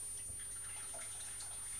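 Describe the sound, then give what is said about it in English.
Water pours steadily into a big pan, a continuous soft splashing rush that holds at an even level for a couple of seconds, fairly quiet with no voices over it. “Some water in.”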